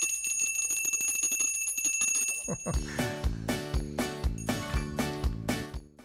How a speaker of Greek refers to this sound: Βαράνε τα καμπανάκια.